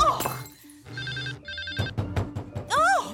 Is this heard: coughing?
no